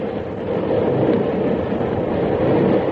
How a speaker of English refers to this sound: his two-unit diesel engine, which is pulling a 70-car freight train through the quiet valley